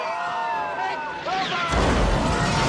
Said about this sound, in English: The North Pole is under attack, John. There's gunfire.